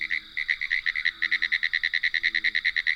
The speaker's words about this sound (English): Noisy frogs and toads sound off from swampy areas.